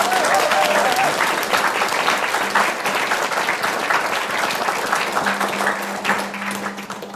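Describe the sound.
A large audience breaks into sustained, loud applause for three mentees, a dense wash of many hands clapping at once that continues steadily for several seconds with a faint voice underneath.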